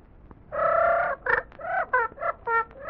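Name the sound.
duck quacking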